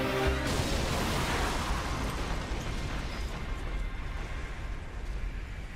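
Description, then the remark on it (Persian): A loud, close explosion bursts at the start, then a heavy, sustained roar and rumble of debris and noise carries on steadily for several seconds. No voices are heard. “چند تا از خازنها داغون شده. انفجار نزدیک.”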